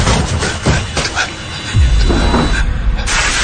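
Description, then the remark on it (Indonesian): A door downstairs opens and closes as people come in, heard as muffled dull thuds and a low rumble beneath a steady background hiss. “Hingga terdengar sepertinya mereka sudah masuk ke pintu bawah.”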